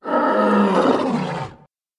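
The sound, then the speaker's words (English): A single loud lion roar, rough and rumbling, sustained for about a second and a half before cutting off into silence. “God Made the Lion.”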